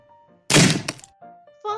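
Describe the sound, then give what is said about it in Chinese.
A tree branch snaps underfoot with one loud, sharp cracking thunk lasting about half a second, framed by faint, brief tonal sounds before and after. “但系喺下一秒，喺四十郎脚下嘅树枝传来咗一阵断裂嘅声音啊！”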